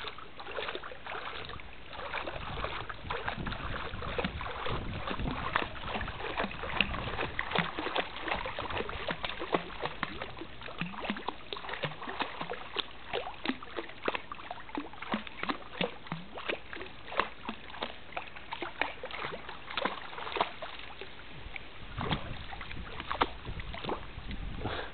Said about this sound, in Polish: Nie rozumieją, ale podoba im się, jak ruszam stopą w basenie i woda pluska do góry.